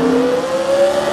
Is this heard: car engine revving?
yes